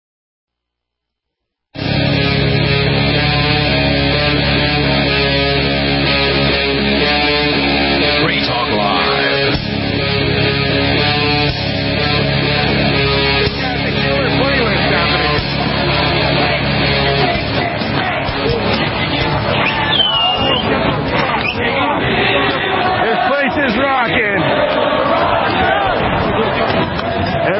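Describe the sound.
A dense, loud crowd roars continuously while many people bang on objects, producing a constant clatter of irregular metallic knocks and thumps mixed with shouting voices, at a big street party in Ottawa, Canada, in the evening.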